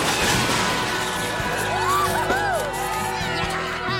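A crowd cheers loudly and steadily for about four seconds, with several rising-and-falling whoops and shouts standing out in the middle of the noisy roar.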